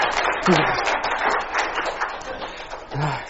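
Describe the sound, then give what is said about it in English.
A burst of audience applause after a performed scene from Bambi Part 2, a dense crackle of many hands clapping at steady volume for a few seconds, with brief vocal sounds rising over it near the start and end. “Give me an applause for that, please.”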